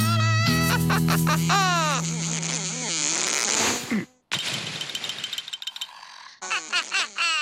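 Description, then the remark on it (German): A loud, cartoonish fly buzz with a rough, swooping pitch that wavers up and down, coming in several bursts separated by brief pauses. No one speaks over it. “Fliege, aber du störst doch die Spinnen mit deinem lauten Gesumse.”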